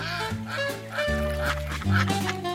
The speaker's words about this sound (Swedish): Bredvid hästhagen ligger en damm. Där simmar en flock gäss och ankor. Barnen, Brummelisa och Nina Kanin går dit. När de kommer närmare börjar ankorna och gässen kvacka och kommer nyfiket simmande.